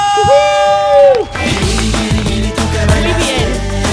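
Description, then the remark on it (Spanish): A loud, drawn-out enthusiastic yell rings out, then gives way to a lively burst of crowd cheering and whooping with rhythmic pulses underneath, energetic throughout. “Echábamos de menos este grito, ¿eh?”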